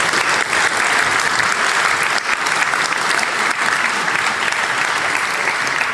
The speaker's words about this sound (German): Applaus für die Cocktailbar.